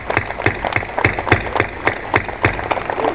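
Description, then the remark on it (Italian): An audience claps together in a steady rhythm, sharp hand claps landing about three times a second over a murmuring crowd, moderately loud throughout. “Certo, l'applauso lo conferma.”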